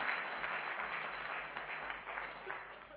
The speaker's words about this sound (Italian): Se invece siete contenti di quello che sto dicendo, fate un applauso. Amen. Grazie. Fatelo più forte, non è per me, eh? È per il Signore Gesù.